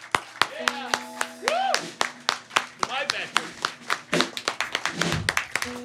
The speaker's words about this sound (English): I wanna have one more round of applause for those that participated today and all of our veterans who participated in a Project Drew. Let's say a big round of applause and thank you to our veterans.